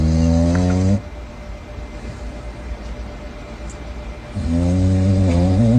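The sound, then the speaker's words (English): A raccoon lying in a drawer in a shop snores, two long raspy, buzzing breaths several seconds apart with a soft, hissy lull between them. No one talks. “Submitted for your approval, a snoring raccoon.”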